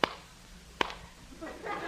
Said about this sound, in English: What's that? Two claps of thunder.